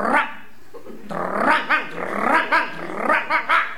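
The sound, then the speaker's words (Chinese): A man's voice imitates a dog greeting neighbours at the entrance of an alley, a low drawn-out growl followed by a rhythmic run of loud, punchy barks, about six in quick succession. “一看老街坊在这儿，这条狗主动上前打招呼。”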